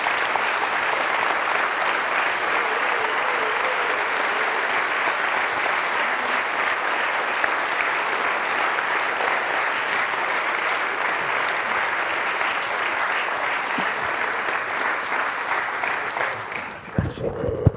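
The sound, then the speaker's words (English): An audience claps steadily for about seventeen seconds for a visiting couple being introduced, a dense, even wash of many hands that holds its loudness throughout before tapering off right at the end. “It's okay to clap for them.”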